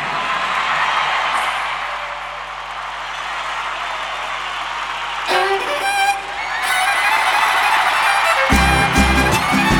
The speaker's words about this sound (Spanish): Les pedía un fuerte aplauso para el maestro